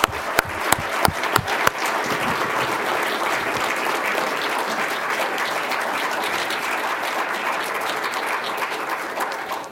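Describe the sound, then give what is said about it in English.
An audience bursts into applause honoring the late Marine general O.P. Smith, opening with a few sharp individual claps that quickly swell into steady, dense clapping holding at a loud, even level for about ten seconds. “Please join me in applauding him.”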